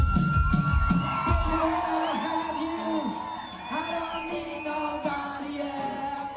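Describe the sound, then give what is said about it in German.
A large concert audience in Berlin cheers, laughs and whoops continuously at the performers' dance steps, with shrill rising shouts and whistles riding over a dense, loud roar of voices that stays strong throughout. “die sehen so wunderbar bescheuert aus, dass das Publikum echt lachen und juchzen muss.”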